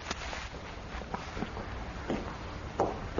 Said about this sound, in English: Sir, Footsteps. Yes, I heard.